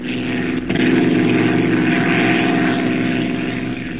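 A steady, loud propeller engine drone fills the space as if heard from inside an aircraft cabin, with a low rhythmic throb continuing throughout and no talking.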